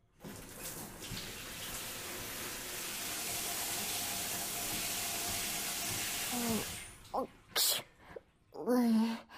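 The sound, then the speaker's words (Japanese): A steady shower spray hisses for several seconds in a bathroom as water rinses soap foam off, then cuts off abruptly, followed by a few short bursts of a voice. “じゃあ、そろそろ泡を流してやらないとな。”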